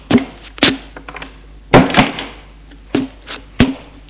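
household object, door being closed

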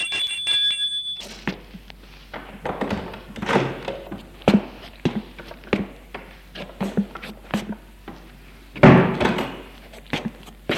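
household object, someone

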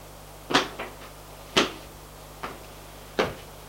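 household object, bedroom door opening

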